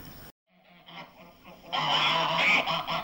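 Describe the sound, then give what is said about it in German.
A flock of geese honks and cackles, starting moderately after a brief pause and then swelling into a loud, dense chorus of overlapping calls. “Zu Pommern gehörten damals wie heute die Gänse.”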